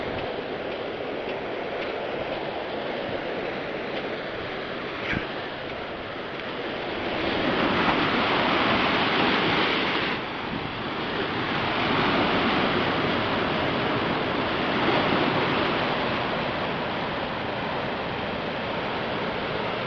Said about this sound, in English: There's a little set of stairs here we need to go down. Stairs, the tide's a little high right now, so the stairs are pretty much being washed over by the ocean at the bottom, so I'll just go down to the point where I won't get wet.